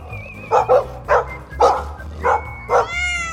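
A dog barks six times in a steady, fairly rapid series, the barks loud, ending with a brief higher-pitched whine.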